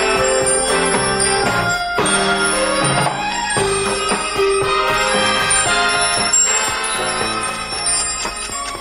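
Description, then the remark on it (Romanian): A pendulum clock chimes the hour in a loud, dense run of ringing bell tones that overlap and keep sounding steadily for several seconds, with no voices. “ori ceasul meu, ori pendula merge înainte.”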